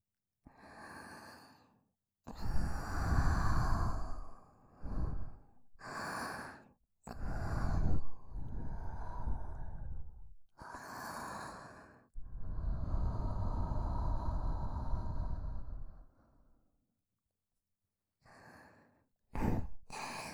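Warm breaths blown onto a wet ear: a series of long, airy exhales and sighs, some drawn out and some short, intimate and fairly loud, with brief pauses between them.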